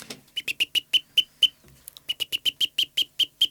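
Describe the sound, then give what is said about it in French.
A person imitates a blackbird's alarm call with a rapid series of sharp, clicking chinks, about twenty in quick rhythm with a brief pause midway, fairly loud, with no other talking. “Non, je sais faire un tout petit peu son cri d'alarme, qui fait comme ça.”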